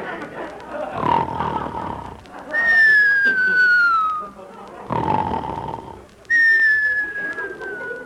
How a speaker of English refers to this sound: Whistles tonight.